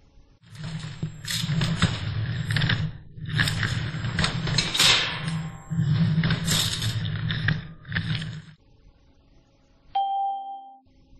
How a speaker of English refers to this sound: They're moving furniture.